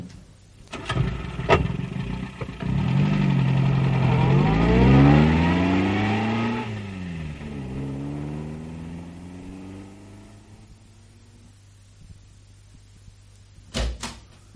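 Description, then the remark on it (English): A car door thuds as men get into a car, then an engine cranks and catches, revving up through rising, sweeping harmonics as the vehicle pulls away and fades to a low hum before another door-like thump. “Get in that car. Move over, Joe. Make room for the gents. Okay. All right, Sergeant, I'll drive.”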